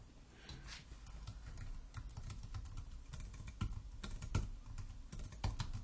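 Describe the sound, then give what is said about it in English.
Rapid, irregular clatter of keys on a computer keyboard, fairly quiet, with occasional louder keystrokes punctuating a steady stream of typing and no voices. “Once again, my fantastic typing skills on display.”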